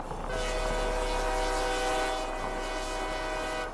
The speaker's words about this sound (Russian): Мы садимся на электричку и двигаемся дальше по следу золотарей.